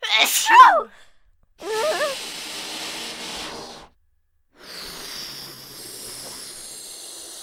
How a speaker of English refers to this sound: it's super important that you don't... sneeze.